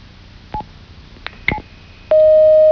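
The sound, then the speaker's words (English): A few short electronic blips and clicks, then a loud, steady telephone line beep holds one pitch without break until the end as a caller is brought on the air of a radio show. No voices are heard. “Ooh, that beep.”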